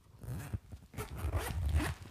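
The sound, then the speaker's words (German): The zipper of a small pouch carried inside a belt bag is pulled open in a couple of quick, raspy bursts, fairly quiet, with no talking. “Kann sein, dass man das in dem Mikro überhaupt nicht hört, den Reißverschluss.”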